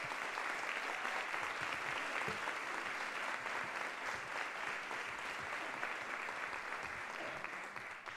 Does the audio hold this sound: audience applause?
yes